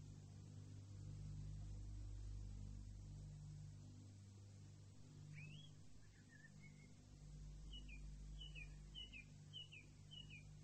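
Faint birdsong over a steady low rumble: a rising call and a short trill midway, then a quick run of repeated chirps toward the end, with no one speaking.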